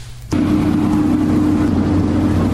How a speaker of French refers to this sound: Il est minuit. Nous sommes à l'aéroport international Houari Boumdien. Deux avions cargo de l'armée nationale populaire arrivent de Chine, chargés de grandes quantités de kits de prélèvement et de moyens de protection.